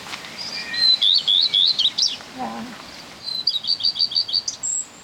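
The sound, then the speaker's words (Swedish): Recorded birdsong played through a loudspeaker: bright, rapid song with repeated chirping phrases in two bursts, separated by a short lower call, clear against a quiet background. “Jag spelar upp den i högtalaren nu.”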